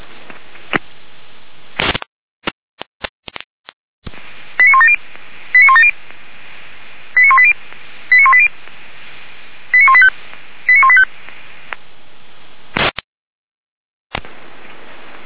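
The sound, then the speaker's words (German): Fire brigade radio pager alert tones during a pager test for the Weimar professional fire brigade and all volunteer fire brigades of the city of Weimar: six short bursts of stepped electronic tones in three tight pairs, sounding over a thin radio hiss after a few sharp clicks and static crackles. “Überprüfung, Funkmeldeempfänger für die Berufsfeuerwehr Weimar und alle freiwilligen Feuerwehren der Stadt Weimar.”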